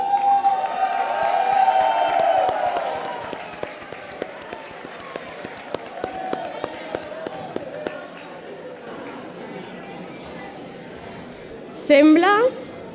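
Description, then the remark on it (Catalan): A crowd in Sitges toasts the youth committed to the culture and traditions of Sitges and Catalonia, with glasses clinking in scattered sharp taps over busy chatter and cheering voices, ending in a brief louder shout of celebration. “I ara, amb l'altra mà, si encara teniu la copa plena, encara que he sentit alguna caure per allà, us proposem fer un brindis pel tot el jovent compromès amb la cultura i les tradicions de Sitges i del nostre país.”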